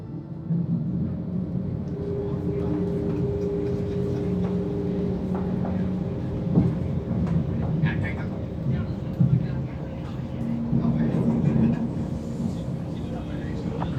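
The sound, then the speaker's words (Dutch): Steady, droning rumble of a train in motion, arriving at Amsterdam in a few minutes, with low humming tones and occasional clacks over fourteen seconds, and indistinct voices faintly in the background. “Beste reizigers, over enkele minuten komen we aan op Amsterdam. Daarna rijdt deze trein verder naar Amsterdam.”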